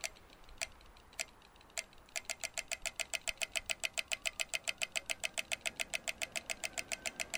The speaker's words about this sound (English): And every direction in this intersection has clicking. And it's pretty easy to tell which clicking applies to where you are.